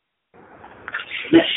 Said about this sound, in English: Bless you.